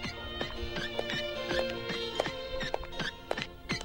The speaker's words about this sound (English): Those are the footsteps.